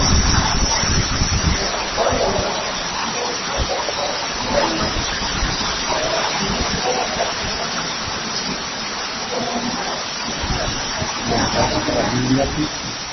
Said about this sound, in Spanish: Espérate, no oigo por la lluvia. No, es que lo oigo por la lluvia.